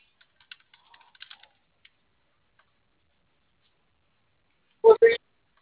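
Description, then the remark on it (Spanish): Faint, scattered clicks of typing on a computer keyboard, a few quick taps then a pause. After a stretch of quiet, a short, louder burst of voice cuts in near the end. “¿El teclado está encendido?”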